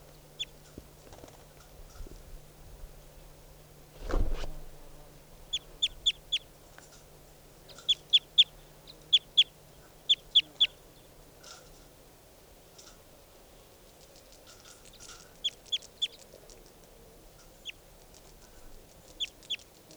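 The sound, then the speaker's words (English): Bird calls: clusters of short, high-pitched chirps repeated in quick bursts of two to four over a low steady hum, following a single dull thump near the start. “Recording bird.”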